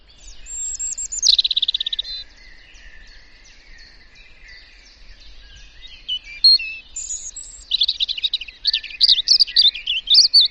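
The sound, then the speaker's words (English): A European robin sings alone in short, thin, wistful phrases separated by brief pauses, the notes high and warbling, clear against a faint low background rumble. “has a very sort of laid back, quite casual song really. Sounds a bit sad as well when it's singing.”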